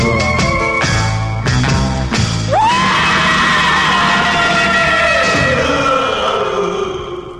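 A loud 1960s rock and roll record: punchy full-band stabs give way to a rising, drawn-out scream that wails over sustained ringing instruments before slowly fading.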